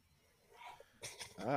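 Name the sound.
sneeze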